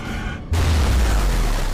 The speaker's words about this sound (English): Kim looks back at Athena, then follows the others out of the lair as the cube glows brighter. Outside, the lair explodes behind Team Possible as they run.